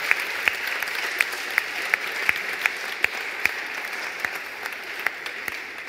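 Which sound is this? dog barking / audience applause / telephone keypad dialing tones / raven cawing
audience applause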